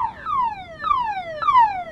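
A loud electronic alarm blares, repeating a shrill, harmonic tone that slides downward in pitch roughly every half second, three cycles in a row, with no voices.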